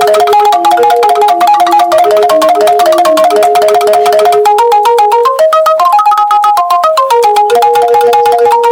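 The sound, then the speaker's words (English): A Balinese bamboo xylophone (ringgit), tuned to a pentatonic five-tone scale and struck with beaters in both hands, plays a quick, steady stream of bright struck notes in a repeating melody, with two lines weaving together. It stays loud throughout with no voices. “The tone which is produced by ringgit is pentatonic, meaning it has five main tones.”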